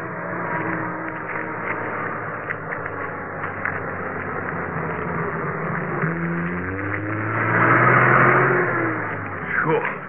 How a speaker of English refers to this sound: Hey, watch out. There's a truck coming along behind. Get to the side of the road and keep your voice down.